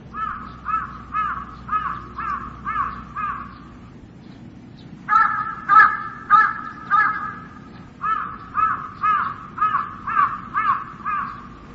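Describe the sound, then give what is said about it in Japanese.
Several crows resting in an old dead pine tree on an island call back and forth in steady runs of harsh, rhythmic caws. After a short lull comes a louder burst of overlapping calls, then another even series of caws. “この鳥たちはいずれも工場の騒音や近頃めっきり増えた車の排気ガスを逃れて、心ならずもこの島にやってきたのである。”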